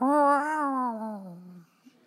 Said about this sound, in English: Oh, look, a kitty cat. Bobcat, wait, I've heard about this cat. This is Murder Cat. He was born as a character in a sketch on Wits and then took physical form and moved into the Fitzgerald Theater.